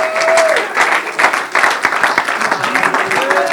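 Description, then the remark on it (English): An audience breaks into sustained applause, giving God a hand clap of praise, dense overlapping hand claps forming a steady wash of sound, with a few brief vocal exclamations rising above the clapping. “Oh, let's all give God a hand clap of praise.”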